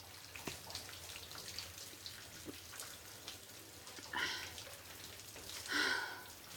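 Shower water runs steadily in a soft, even hiss, with a couple of brief louder splashing surges near the end. No one speaks.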